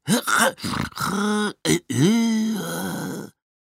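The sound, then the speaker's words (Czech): A voice imitates a struggling vacuum cleaner with a run of strained, sneezy bursts and choked groaning moans, rising and falling in pitch, loud, with brief gaps between the sputters. “A tak místo obvyklého hučení motorku, jaké vydávají všechny ostatní vysavače, bylo slyšet takové podivné kýchání a přidušené hekání.”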